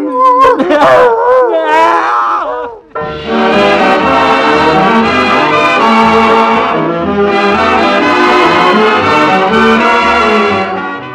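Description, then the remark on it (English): A dog howls and whimpers in a wavering, tearful cry for about three seconds, loud, before a full band of music swells in and plays on. “Go ahead and cry, you big lunk. You're not half as miserable as I am.”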